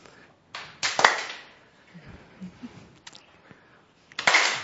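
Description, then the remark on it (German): A standing audience tries to clap once all at the same time, producing a sharp, loud burst with a slightly ragged smear of individual claps, followed by scattered quieter sounds and then a second strong clap burst near the end. “Und versuchen wir mal alle gleichzeitig einmal zu klatschen.”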